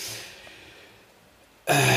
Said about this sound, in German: Ich blättere kurz. Man hört ihn blättern.